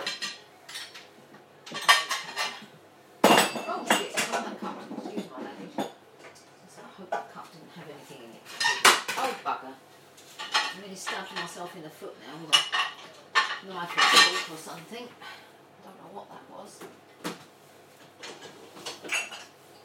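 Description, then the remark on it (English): Cereal bowls and cutlery clink and clatter in irregular bursts, sharp bright knocks of ceramic and metal scattered through about twenty seconds, with a few louder crashes among softer scrapes. “Okay, cereal bowls and whatever.”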